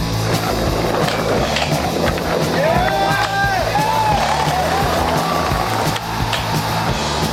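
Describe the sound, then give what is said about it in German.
The Betonkilbe event at Massiv Skatepark Glarnerland, one of Switzerland's largest outdoor skateparks: hundreds of people murmur and call out while skaters show tricks, skateboard wheels rumble steadily and boards clack sharply now and then, the whole scene dense and continuous. “Hunderte von Leuten, Livebands, Foodmeilen und Skaterinnen und Skater, die ihre Tricks einem begeisterten Publikum präsentieren.”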